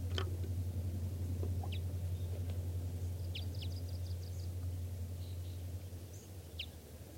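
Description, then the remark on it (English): At least a pair of wild birds, sounding like type 5, give short, high chirps and thin peeps at irregular intervals over a steady low hum, with a few quick calls clustered together and no voices. “It's recording wild birds.”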